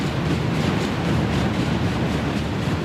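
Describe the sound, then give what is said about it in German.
A long freight train with oil tanks and coal containers rattles through the small town of Rawlins, a steady, loud rumble of heavy wheels and clanking cars that keeps up without a break and with no voices. “Durch die Stadt rattern mehrmals am Tag lange Züge mit Öltanks und Kohlecontainern.”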